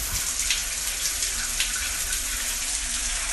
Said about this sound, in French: Je prends mon petit déjeuner, une douche.